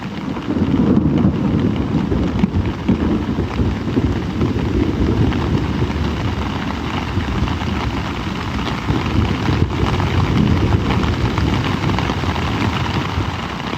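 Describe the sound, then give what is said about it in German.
A deep, continuous rumble of rolling thunder from a thunderstorm passing fairly close, not directly overhead, at about 2 a.m., booming steadily for the whole stretch with faint rain-like hiss beneath and no voices. “So um 2 Uhr nachts krachte da ein Gewitter vorbei. Nicht direkt über uns, aber doch schon ziemlich nah.”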